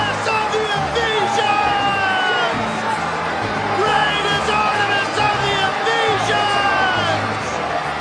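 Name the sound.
crowd shouting in unison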